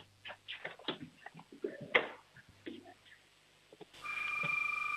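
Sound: child imitating a doorbell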